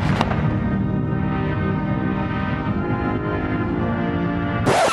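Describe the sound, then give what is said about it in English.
Cannon fire from a 21-gun salute as President George H. W. Bush's coffin arrives at the Capitol in Washington at sunset: a heavy boom opens, its deep rumbling echo rolling on for several seconds before a second loud blast cracks out near the end. No talking. “A hero's welcome heralded by cannons and a 21-gun salute.”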